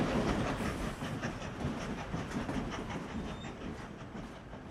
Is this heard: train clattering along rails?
yes